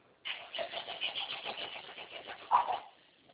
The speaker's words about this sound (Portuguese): Pode ligar o carro?